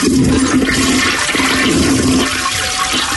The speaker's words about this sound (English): Can he get a toilet flush soundbite and the dirty Germans talking about pooping on the deck?